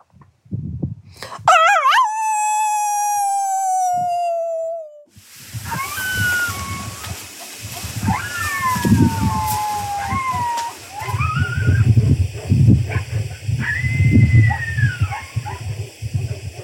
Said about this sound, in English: And the clip you just heard, the one of … howling with coyotes, it is almost unnerving.